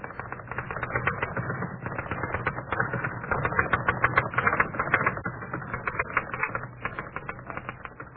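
Rapid, continuous typewriter clatter fills the whole stretch, a dense flurry of sharp key strikes over a low mechanical hum, steady with no voices.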